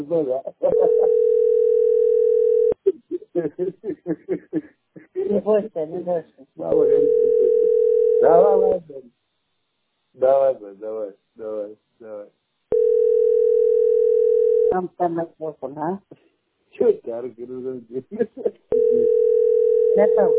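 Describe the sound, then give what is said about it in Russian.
A telephone ringback tone sounds in steady two-second bursts, repeating about every six seconds, as the caller rings a man's own phone, while people talk in the pauses between the rings. “А это его живого телефона я звоню, брат, мама.”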